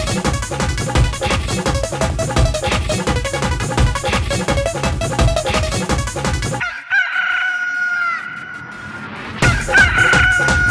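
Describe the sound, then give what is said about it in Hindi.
Upbeat folk music with steady drums gives way to a brief break where a loud rooster crow rings out, drawn-out and falling, before the band kicks back in. “भंगिया खैले बा मुर्गा बा कुकु कुकु, भंगिया खैले बा मुर्गा बा कुकु कुकु, भंगिया खैले बा मुर्गा बा कुकु कुकु।”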